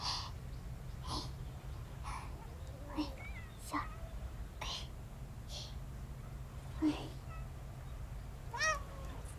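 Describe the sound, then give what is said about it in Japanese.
Several cats meow in short, scattered calls over a steady low hum while being fed, rushing after the person handing out food, with soft breathy sounds and small squeaks in between; the meows are moderately loud. “おお、みんなすごい勢いでついていく。くしゃみ猫ちゃんはついていかんでよろしいよ。”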